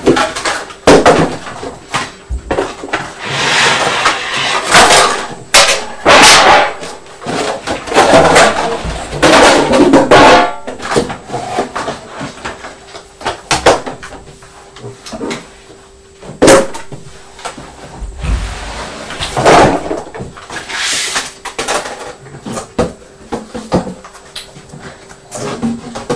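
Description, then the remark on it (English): Boxes being pulled out of a cupboard and put on the floor: repeated thuds, scrapes and knocks come in irregular bursts, some loud and sharp, with a faint steady hum underneath and no talking. “Because you're just pulling them out of the cupboard and putting them on the floor.”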